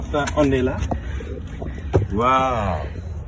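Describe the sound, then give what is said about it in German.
Gusty wind roars and buffets steadily from start to finish, a loud low rumble, with a voice speaking over it in brief bursts, on top of a 27-metre-high mosque minaret in the small desert town of Agadez. “Der Wind weht stark.”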